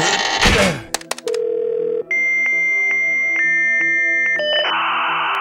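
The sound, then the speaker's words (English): A dial-up modem dials into a school's mainframe and connects: a thunk, a steady dial tone, quick tone beeps, then shifting screechy handshake tones ending in a hissy static wash, loud with no talking. “I'm connecting to the school's mainframe through the internet.”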